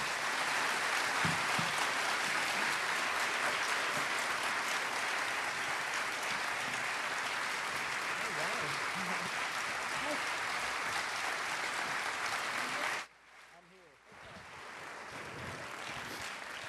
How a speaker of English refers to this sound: So now, ladies and gentlemen, you can clap. It's time to welcome Brian Copeland and Mike Cassidy.